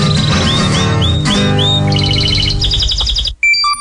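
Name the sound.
canary singing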